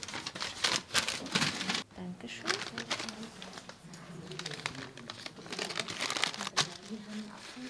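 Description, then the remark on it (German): Busy crinkling and rustling of paper as a pawnshop employee searches through paper bags for the one holding a pawned item, in irregular bursts with a brief pause, while voices murmur faintly underneath. “Innerhalb von wenigen Sekunden hat sie die richtige Papiertüte gefunden und bringt das Pfand zu ihrer Kollegin.”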